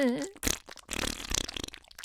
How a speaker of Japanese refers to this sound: 出る出る出る、おなら出る。